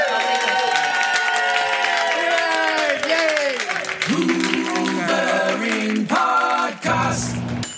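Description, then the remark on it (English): A live audience claps steadily while loud whoops and high, sliding cheers rise over the applause, building into a dense, continuous roar of excitement throughout. “Everybody, give yourselves a massive round of applause.”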